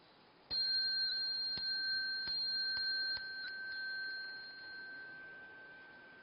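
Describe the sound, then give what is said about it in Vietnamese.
A sustained bright tone from a Buddhist temple bell rings steadily, punctuated by a series of sharp metallic strikes on a chime (khánh) at roughly even intervals, marking bows during a Buddhist prostration ritual, with no talking and a slowly fading ring. “Thì chúng ta đứng dậy, thì vừa đứng dậy rồi á, chúng ta xá theo cái tiếng chuông, chúng ta nghe tiếng khánh thì chúng ta lại xuống.”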